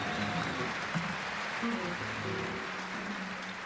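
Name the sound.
audience applause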